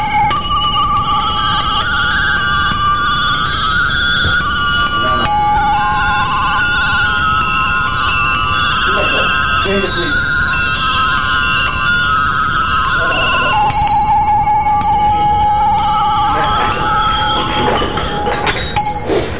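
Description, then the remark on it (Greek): A dense, continuous clanging of many sheep bells ringing together, loud and steady for the whole stretch, with overlapping metallic tones shifting in pitch and no voices. “Και όπως είπαμε τα κουδούνια είναι κοπάδι, είναι πάρα πολύ σπουδαίο πράγμα.”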